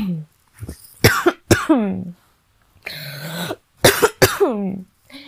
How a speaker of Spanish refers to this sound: Mil disculpas. Lo siento, estoy con un poco de tos.